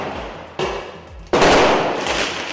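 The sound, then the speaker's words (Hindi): Two sharp, loud bangs of tear gas canisters fired by police to disperse protesters at a May Day workers' rally in Istanbul, Turkey, spaced under a second apart, each followed by a lingering wash of noise over a rumbling outdoor street-clash din. “अलबत्ता तुर्की के शहर इस्तांबुल में रैली के शुरुका का पुलिस के साथ जबरदस्त तसादुम हुआ, जिसमें पुलिस ने मुजाहिरीन को मुंतशिर करने के लिए आंसू गैस फेंकी।”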